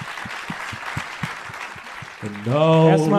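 A crowd claps in a steady rhythm with dense noise underneath for about two seconds, then a loud, drawn-out voice cuts in over the fading applause.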